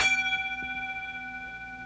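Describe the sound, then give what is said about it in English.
A single bell is struck once, producing a bright attack followed by a steady, sustained ring of clear tones that slowly fade. No voices are present. “Bell is just hit.”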